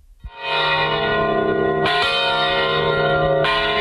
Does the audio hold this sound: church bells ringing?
yes